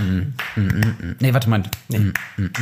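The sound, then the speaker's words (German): Several sharp hand claps try to keep time with a beat, spaced somewhat unevenly, while people talk over them throughout. “Nee, warte, es ist schwierig zu klatschen.”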